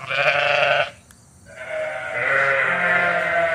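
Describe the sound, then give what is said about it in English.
Sheep bleat loudly among 15 acres of solar panels near Vineland in southern New Jersey, one wavering cry followed after a short pause by a longer, drawn-out bleat, with no talking. “Julie Bishop is calling her sheep. 55 of them are off hiding in the middle of 15 acres of solar panels”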